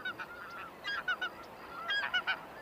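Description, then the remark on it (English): Snow geese honk in two quick bursts of overlapping calls, a flock sounding over a steady, breezy outdoor hiss. “there was good news for wetland birds and waterfowl like snow geese.”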